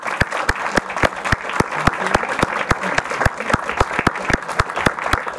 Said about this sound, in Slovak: ale teda najmä myslím, že to nám je všetkým jasné, že tou najdôležitejšou, najpodstatnejšou a nami veľmi milovanou osobnosťou je arcibiskup Bezák a možno, že by sme ho mohli do ďalekého Busolenga pozdraviť krátkym potleskom.